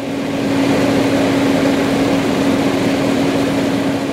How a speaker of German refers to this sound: Motoren von Pumpen und Kompressoren dröhnen. Im Auftrag des Staates Ecuador versucht ein Trupp von Spezialisten, die Ölverschmutzung zu sanieren, also Rohöl und Erde zu trennen.